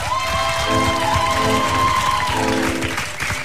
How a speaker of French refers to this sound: À la guitare, c'est mon frangin. Je vous demande de l'applaudir bien fort.